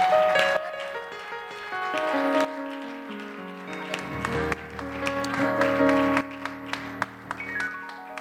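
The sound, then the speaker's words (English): An audience at a church worship service applauds the Lord with a steady patter of clapping and a few sharper claps, mixed with sustained keyboard chords that play throughout. “Why don't we applaud the Lord for his goodness?”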